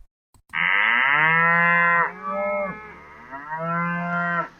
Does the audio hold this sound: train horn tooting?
no